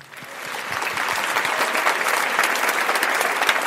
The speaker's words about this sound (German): Verdienter Social Media Award geteilt diesmal nach Gemrichheim und nach Unterföhring zur Zampal. Das ist euer Applaus.